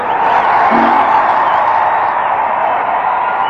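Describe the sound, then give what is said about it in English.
An audience gives a round of applause as Peter Ray is about to go to show, a dense, steady wash of clapping that holds at an even loudness throughout, with a faint whoop or cheer rising briefly near the start. “The round of applause here is Peter Ray about to go to show.”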